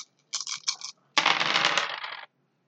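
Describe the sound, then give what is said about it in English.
A few dice clatter briefly in a hand, then a larger handful tumbles and rattles across a hard tabletop for about a second before settling, fairly loud with no voices, as all dice not showing a 6 or a 1 are rolled in a game. “Roll everything that hasn't got a 6 or a 1. Okay, that's not green. So it's basically all of those dice.”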